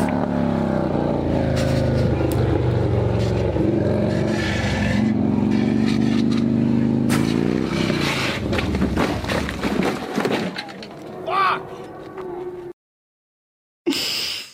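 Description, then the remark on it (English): A loud motorcycle engine rumbles steadily and revs up, its pitch climbing midway, before cutting out abruptly into silence followed by a brief burst of noise. “Is the motorcycle still a bike?”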